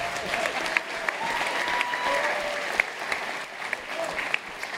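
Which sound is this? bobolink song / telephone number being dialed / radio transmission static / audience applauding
audience applauding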